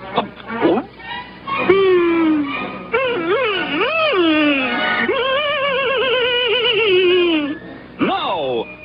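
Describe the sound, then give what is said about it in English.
A cartoon dog moans and whimpers in long, wavering, pitch-sliding cries, loud, rising and falling almost continuously with a brief pause before a final rising whine. “Well, he was a two-faced dog.”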